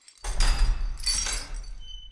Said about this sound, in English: Everywhere she visits, you can hear the scrape of keys in prison cell doors and the unclanking of manacles, as people who had fallen foul of old Henry were released from their captivity.